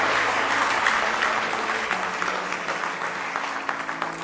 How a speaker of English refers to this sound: How many of you are glad you're a Christian this morning? Give him one more good hand clap of praise.